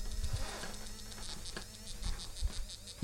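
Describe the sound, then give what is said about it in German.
An obstacle detector vibrates with a strong, insect-like buzz as it is moved slightly back from an obstacle, within about 30 cm of it, pulsing in quick regular bursts over a low rumble, with no one talking. “Entferne ich mich wieder etwas davon, vibriert es heftig.”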